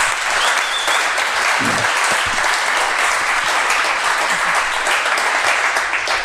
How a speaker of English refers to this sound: And as this is a live podcast, we can give her a warm round of applause from the beginning.